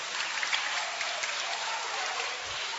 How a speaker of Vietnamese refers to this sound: chúng ta cho một tràng pháo tay hoan hô ông Giuse